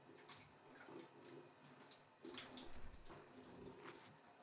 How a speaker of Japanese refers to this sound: じゃあ、そろそろ洗い流しちゃいますね。お湯の温度はちょうどいいですね。じっとしててくださいね。マッサージをしながら洗い流していきますよ。